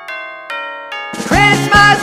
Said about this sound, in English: Those Christmas bells ringing through the land, bringing peace to all the world and goodwill to man.